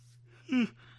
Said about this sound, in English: Pardon me for yawning. I haven't drank coffee.